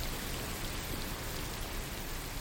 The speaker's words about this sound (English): Is that rain? So, yeah, that's rain, which many people find very relaxing. But yeah. This isn't just any rain. It's rain that has been modified to make it white noise.